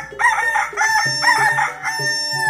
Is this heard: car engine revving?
no